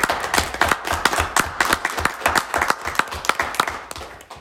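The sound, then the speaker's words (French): A small audience claps steadily for a few seconds, the dense, irregular hand claps fairly loud, with no one speaking over them. “Une bonne main d'applaudissement.”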